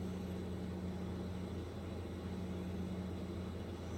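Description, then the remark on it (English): A truck engine rumbles steadily with a low droning hum as the truck drives past, holding an even loudness throughout with no voices. “I'm hearing a truck from one direction.”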